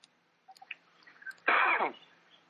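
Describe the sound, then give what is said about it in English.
A single sharp sneeze bursts out loudly after a second or so of quiet, preceded by a few small clicks and breaths, with no talking. “Bless you.”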